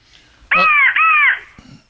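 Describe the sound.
Two loud, harsh crow caws sounded back to back from a crow call, with no talking, the second caw following almost immediately after the first.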